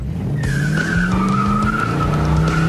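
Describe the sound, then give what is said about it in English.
A motorcycle engine roars steadily while its tire lets out a long, continuous squeal, loud for the whole stretch, with the engine pitch slowly climbing. “Would you ever consider selling this bike? No, not this one.”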